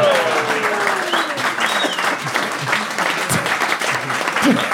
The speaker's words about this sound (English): It's the most reluctant clap I've ever heard in my life.